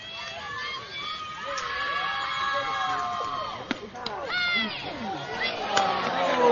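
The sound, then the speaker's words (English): A large baseball crowd jeers at the umpire calling a low, knee-high pitch a strike, many voices hooting and shouting over one another in a steady, loud roar, with a few sharp claps or bangs cutting through near the middle and end. “And that one, as you hear the jeers from the crowd, they're going to think that was too low, but the umpire saw it in the strike zone in that knee-high corner.”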